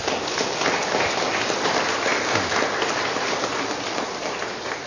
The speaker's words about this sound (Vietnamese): Chúng ta dâng lên Chúa và Đức Mẹ một tràng pháo tay.